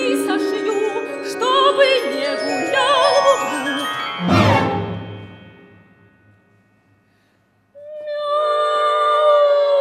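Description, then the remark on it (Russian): An angry cat sitting in a corner yowls in long, wavering, drawn-out cries for several seconds, ending in a sudden loud crash that fades to silence before a steady tone begins. “Злющий кот сидит в углу.”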